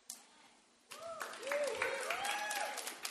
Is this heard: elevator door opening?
no